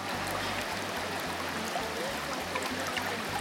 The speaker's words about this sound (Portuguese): Sim, e ela se chama Salto Angel, e a água despenca de quase 1.000 metros de altura, imagina só!